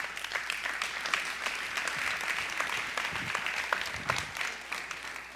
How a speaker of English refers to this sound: It's been an unusual service today, hasn't it? A lot of hand clapping, a lot of recognizing different people, a lot of acknowledgments.